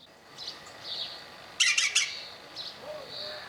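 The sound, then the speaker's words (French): A woodpecker call: three loud, harsh squawking notes in quick succession midway through, with fainter high chirps from other birds scattered before and after. No one speaks. “Bravo, c'est le pivert.”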